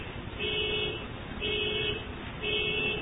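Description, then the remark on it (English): A car alarm goes off during a talk on the Gospels, sounding in three evenly spaced, steady electronic blares, each lasting about half a second, repeating roughly once a second over a low background rumble. “Don't worry, just somebody's alarm, it'll not annoy us too much.”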